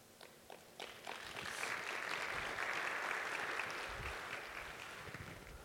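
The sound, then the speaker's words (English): An audience breaks into applause for a demo of adding inking to an application with two lines of markup, starting with a few scattered claps that quickly swell into steady, dense clapping that holds for several seconds before easing slightly. “All right, I get applause for two lines of markup.”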